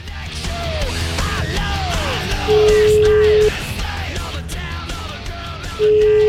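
A telephone ringing tone: a steady, mid-pitched beep lasting about a second, then a long pause before it starts again, sounding over a busy background of warbling, sliding sounds.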